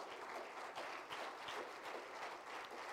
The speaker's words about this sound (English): Somebody clap their hands in this place tonight.